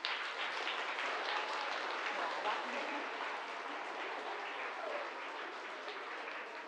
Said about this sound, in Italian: Per cui le facciamo un grande applauso.